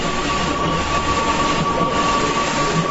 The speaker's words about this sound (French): C'est depuis des heures que cette imprimante est en marche. L'imprimerie Gilles Kiss doit répondre aux commandes des candidats qui ont attendu les derniers jours pour envahir l'imprimerie.